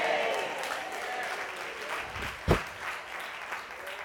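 A lone pair of hands claps a few scattered times, one sharp, loud clap standing out near the middle, over a steady wash of crowd murmur and room noise.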